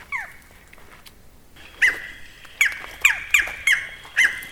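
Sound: barred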